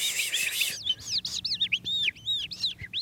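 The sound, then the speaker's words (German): An animal voice imitator imitates a skylark's song with the mouth: a rapid, continuous stream of high, warbling chirps and trills, fairly loud, starting with a dense burst then breaking into quick looping whistles. “Zum Beispiel diese Feldlerche hier stammt aus dem Mund von einem Tierstimmenimitator. Das macht jemand nach, mit dem Mund.”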